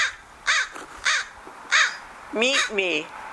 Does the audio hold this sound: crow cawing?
yes